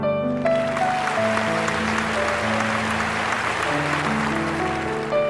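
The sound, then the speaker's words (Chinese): An audience applauds steadily for about five seconds for Professor Lu after his talk on new high-energy accelerator technology, a dense wash of clapping at an even loudness, with sustained musical notes playing underneath and no one speaking. “再次把掌声送给卢教授，谢谢。”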